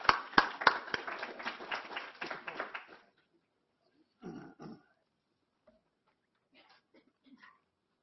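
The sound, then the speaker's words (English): An audience applauds the session's speakers with a dense burst of overlapping claps for about three seconds, then the clapping tapers off into quiet, broken only by a couple of short murmurs and faint noises. “So I think without further ado, can I ask everyone to give a big round of applause for our speakers?”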